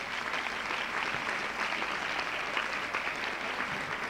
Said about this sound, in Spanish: Ahí demos un aplauso para estos hermanitos, ¿verdad?